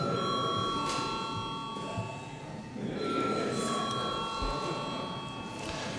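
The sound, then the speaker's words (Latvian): A parliament chamber's voting bell, rung before a vote on a draft law in its first reading, rings continuously for the whole stretch, a steady, bright electric tone with sustained high harmonics over a low murmur of background noise. “Lūdzu zvanu.”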